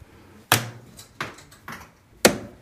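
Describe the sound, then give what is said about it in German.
Darts thrown at a dartboard in a pub, the Kieler Parterre, strike in a short run of sharp, dry thuds at uneven intervals, three landing hard and a few softer. No one speaks between the impacts. “Sie haben ein paar Pfeile in der Hand. Wollen Sie ein paar Würfe probieren?”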